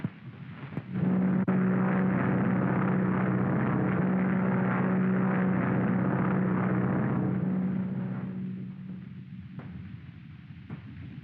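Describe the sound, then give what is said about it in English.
A propeller airplane roars loudly with a steady droning hum, holding for several seconds before gradually fading as it flies off. No one speaks. “Okay, chum, I'll get the plane.”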